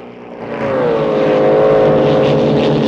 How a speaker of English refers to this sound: Bond skips over the grass and onto the river. Billy Bob's boat follows the bend in the river.